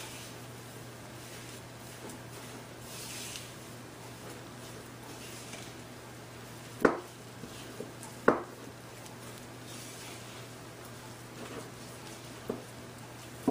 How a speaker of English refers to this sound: And then fresh pepper. Okay, now we're again gonna mix all this up.